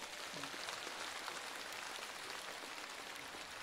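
Steady, dense applause from an audience fills the whole clip, a continuous crackle of many hands clapping at an even level with no voices standing out.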